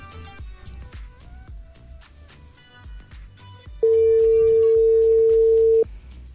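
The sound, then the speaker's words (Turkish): A phone ringback tone sounds once as a loud, steady two-second beep over background music while a call goes unanswered; no one speaks. “O da çalıyor.”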